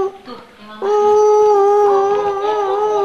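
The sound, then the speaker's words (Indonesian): A voice imitates a monkey call: a short rising hoot, then a loud, sustained howling "ooo" held for about two seconds, with no other talk. “Monyet bagaimana coba? Monyet bagaimana monyet?”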